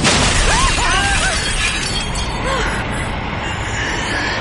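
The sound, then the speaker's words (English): Spaceship windows shatter in a loud burst, bright tinkling shards ringing out early on, all over a constant roaring rush of icy wind through the shattered windows that fills the whole stretch. “The icy wind roared through the shattered windows, ripping into the Sandman's bodies, dissolving them, scattering them, reducing them to grains of dust.”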